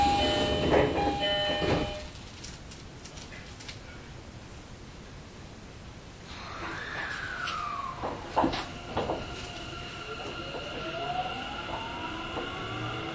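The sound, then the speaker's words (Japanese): Train doors shut with a brief clattering burst, then after a lull the train starts moving off toward Heiwadai station, its electric motor whine sliding and rising steadily over a constant rumble. “閉まるドアにご注意ください。”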